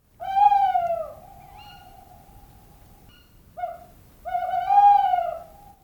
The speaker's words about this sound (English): It's the tawny's call that is the classic owl call that we've all heard, you know, so-called tu-whit-tu-woo.